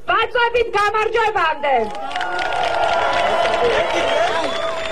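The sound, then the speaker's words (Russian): A raised voice speaks briefly, then a dense, steady crowd noise of approval swells in, with murmuring voices and scattered clapping that continue loudly to the end, in response to a letter from Saakashvili read aloud. “И в ответ вновь гул одобрения и аплодисментов.”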